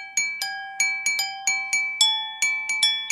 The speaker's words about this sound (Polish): Część zagrałem na klawiszach, część na kieliszkach z huty. Akurat dlatego, że szkło całkiem przyjemny dźwięk wydaje.